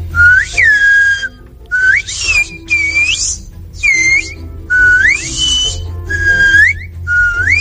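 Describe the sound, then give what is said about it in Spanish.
Loud Silbo herreño whistled speech: a greeting whistled by the president of the Asociación del Silbo Herreño, saying hello to listeners of the Hoy por Hoy radio show. A string of about seven short, piercing whistled phrases with rising and sliding pitch glides, separated by brief pauses, with no talking. “¿no tienes curiosidad de escuchar cómo suena el silbo herreño?”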